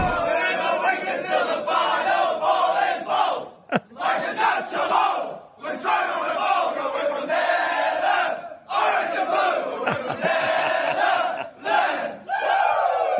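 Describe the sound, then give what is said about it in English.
A crowd of Dutch (Netherlands) cricket fans at the T20 World Cup sings their team song together in loud, rhythmic chanting, with brief pauses between phrases and the voices blending into a dense, sustained roar. “And have a listen to the Dutchies sing their song.”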